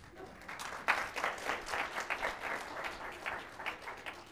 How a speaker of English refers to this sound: Easiest applause you are ever going to get.